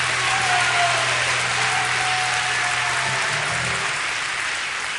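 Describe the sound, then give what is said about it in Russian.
An audience applauds steadily to give glory to God, a dense, loud wash of clapping that stays even for several seconds with a faint low hum beneath it and no one speaking. “Дай Богу славу, дай Богу аплодисменты.”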